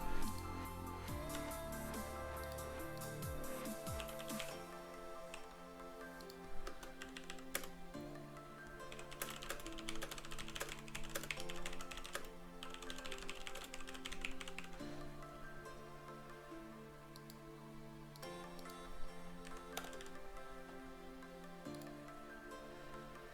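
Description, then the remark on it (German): Quick bursts of clicking keystrokes on a computer keyboard with an English layout, busiest near the middle, play over steady background music. No one speaks. “Ich habe englische Tastatur-Layout.”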